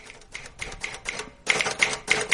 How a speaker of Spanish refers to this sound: ¿Cuánto tiempo sin oír la máquina de escribir? Y funciona igual de mal que siempre.